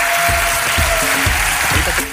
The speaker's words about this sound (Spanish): ¡Un fuerte aplauso para ellos!